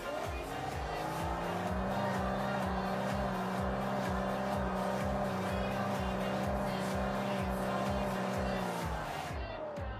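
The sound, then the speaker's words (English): The engine of a recently bought car runs with a loud, rough, rhythmic chugging as someone tries to drive. Its pitch then sags and it dies away in the final second, as if stalling. No one speaks. “The car stopped about 100 times.”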